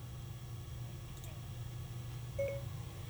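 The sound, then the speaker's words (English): A flip communicator-style phone beeps on with a short, clear electronic tone, preceded by a faint chirp, over a steady low hum with no voices. “But you hear it coming on? It's like a flip communicator.”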